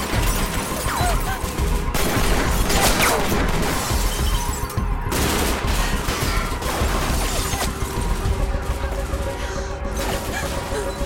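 A loud, sustained barrage of gunfire from at least three shooters on the fourth floor of Shah Memorial, with rapid overlapping shots and sharp cracks, mixed with shattering impacts, continuing almost without pause for around ten seconds, chaotic.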